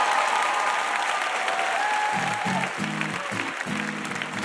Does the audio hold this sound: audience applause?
yes